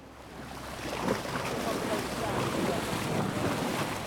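Steady outdoor ambience from a boat at sea sitting over rocks in the English Channel: wind buffets the microphone over a continuous wash of water and a low rumble, holding a fairly even, moderate level throughout.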